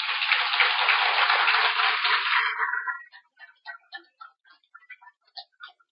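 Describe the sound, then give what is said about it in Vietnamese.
An audience of visually impaired people bursts into dense, loud applause for about three seconds, then it thins out to a few scattered individual claps that trail off. “Nếu bà con nào cảm thấy rằng là mình không khổ vì thiếu ánh sáng, vì ta có được cặp mắt quán chiếu, thì hãy dành một tràng vỗ tay thật to.”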